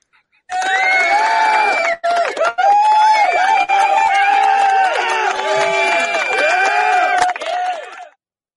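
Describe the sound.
A canned crowd-reaction sound effect plays loudly for about eight seconds: a dense wall of cheering and whooping voices with a brief dip near the start, then cutting off abruptly.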